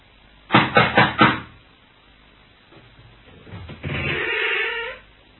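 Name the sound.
knocking on a door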